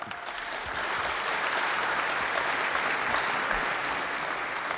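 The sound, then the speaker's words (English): A crowd applauds steadily, a dense wash of many hands clapping at once that holds at an even, fairly loud level for the whole few seconds with no voices on top. “Yeah, they clap for my things too sometimes.”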